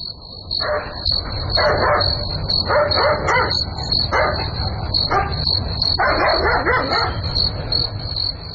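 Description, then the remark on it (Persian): A dog barks repeatedly in quick, irregular bursts in the middle of the night over a steady high-pitched hum and low rumbling background noise, with no one talking. “چیز معلوم نمیشه، نمیفهم که سگ چرا میجفه، حتما کدام گپ خو است.”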